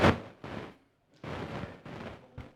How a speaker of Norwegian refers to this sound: Der var vinden, ja.